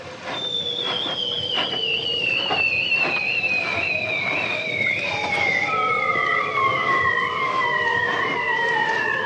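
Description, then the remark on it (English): Bearded seals sing underwater in long, slowly descending whistling trills that glide downward in pitch and overlap one another, with rapid pulsed clicks underneath and no voices; Matthias Arignon's recording The Songs of the Bearded Seals, winner of this year's Sound of the Year. “But we're delighted to announce that the winner of this year's Sound of the Year is Matthias Arignon with his sound, The Songs of the Bearded Seals.”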